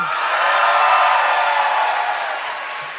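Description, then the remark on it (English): A crowd votes by applause, bursting into sustained clapping mixed with cheering. The dense, steady wash of clapping holds loud for a few seconds and then begins to taper slightly at the end. “All right, so now you guys are just going to vote based on applause.”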